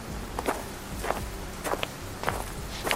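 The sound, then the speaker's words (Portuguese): Slow, cautious footsteps, about five soft steps at an even pace, each a brief scuffing crunch over a low, steady background rumble, as someone with their flashlight switched off walks carefully toward the entrance of a place in a forest. No one speaks. “Ele desliga sua lanterna e caminha com cuidado em direção à entrada do lugar.”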